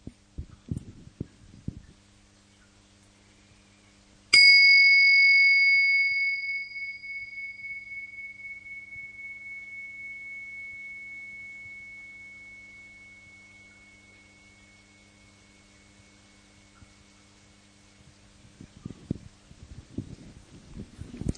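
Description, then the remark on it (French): A small bell is struck once to open a moment of shared presence at a group gathering, its clear, high tone ringing out and slowly fading over many seconds, with a faint low hum and soft rustling around it. “Alors, je vais commencer avec un petit son de cloche, juste de manière à ce que nous puissions commencer par un petit moment de présence partagée.”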